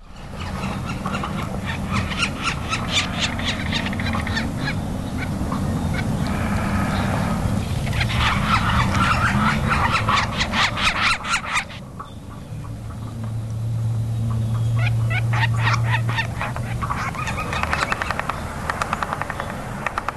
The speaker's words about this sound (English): In fact, I've got a yellow-bellied sapsucker, so maybe we could hear that right now.